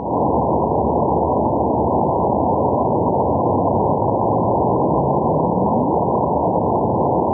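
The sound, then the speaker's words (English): Steady, dense hiss of noise throughout, with a faint gravitational wave chirp from a cosmic collision, a sonified detector signal, rising in pitch toward the end, a soft upward sweep half-buried in the static. No voices. “Oh, that little chirp right there at the end. I hope you could hear that because it was kind of faint.”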